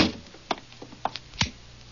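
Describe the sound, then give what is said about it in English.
A door at McVeigh's house is shut: a few light clicks and taps from the handle and latch, then a soft low thump as it closes. No one speaks. “Well, close the door.”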